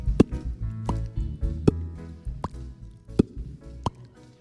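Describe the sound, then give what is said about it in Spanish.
A voice imitates a ping-pong rally with mouth pops: six or seven sharp, hollow plops trading back and forth at a steady, quick rhythm over a low background rumble. “Con el Curso de Ruiditos Deportivos obtendrás el título oficial para poder narrar por la radio los sonidos deportivos, como por ejemplo, un partido de ping-pong.”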